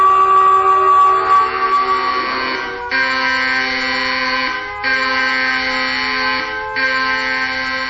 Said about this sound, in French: C'est quoi cette alarme? Qu'est-ce qui se passe?